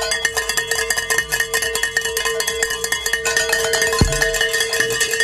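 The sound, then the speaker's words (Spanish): Bells are rung in celebration at the Spanish-language Radio Guadalupe station after a goal is reached, ringing continuously and loudly with rapid, overlapping metallic strikes, their bright sustained tones layering into a dense, clanging peal. No voices are heard. “Ayúdame a tocar las campanas.”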